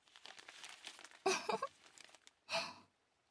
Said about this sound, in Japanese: さつまいもを新聞紙で包んでください。あ、違います、濡らすんですよ。さつまいもも新聞紙も一緒に。